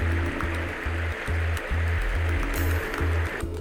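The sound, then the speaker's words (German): Rushing water from a small brook that flows into the Ahr river, swollen after two days of almost continuous rain, flows steadily and loudly, with a dense, churning wash and a deep rhythmic rumble pulsing underneath, no voices present. “Nun sind die Böden mit Wasser gesättigt und langsam schwellen die kleinen Bäche an, die in die Ahr münden.”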